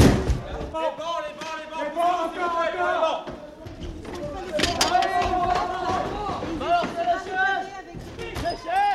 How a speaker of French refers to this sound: CRS et gendarmes mobiles encerclent très rapidement l'église, forment un cordon de sécurité devant l'entrée principale, escaladent les grilles, tandis que plusieurs d'entre eux défoncent les portes arrière de l'église.